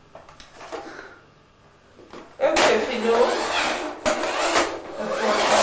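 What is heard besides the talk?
door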